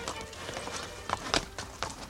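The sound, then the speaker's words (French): Hooves of horses ridden by two people clip-clop in a steady, moderately quick rhythm of sharp, hollow knocks, with a few louder hits toward the middle. “Les voilà tous les deux à cheval.”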